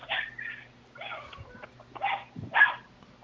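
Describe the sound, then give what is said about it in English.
A large rescue dog, said to look like a horse, barks in a handful of sharp, uneven bursts, some coming in quick pairs, over a faint low hum; the final barks are the loudest. “The one that's making all the noise. We have, like, a few rescues. The one that looks like a horse. It's a Rottweiler?”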